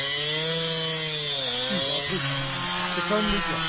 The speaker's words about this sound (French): Tronçonneuse. Une tronçonneuse.